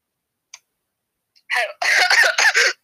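Harsh coughing as someone chokes on water: one short rasping burst, then a rapid run of several strained, sputtering coughs, following a brief quiet moment with a faint click.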